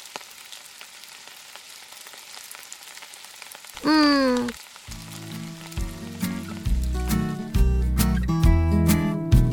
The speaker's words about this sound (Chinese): 下雨了。